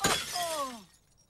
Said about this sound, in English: The mobile smashes and the playground is trashed. This place is totaled.